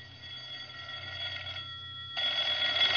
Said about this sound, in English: The phone was ringing as I stepped into my apartment.